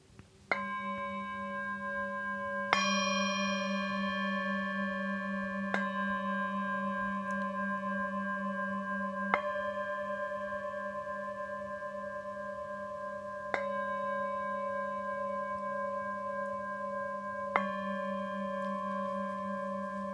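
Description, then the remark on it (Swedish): Singing bowls struck softly with a wooden mallet about 20 cm long, from Nepal or Tibet, with black felt at its tip; about six strikes spread over twenty seconds, each tone ringing out long and layering into a steady, shimmering hum with no talking. “Och då håller man i träskaftet, och så längst fram är det som lite svart filt på. Och när jag spelar med de här, då får man ju ytterligare ett annat ljud.”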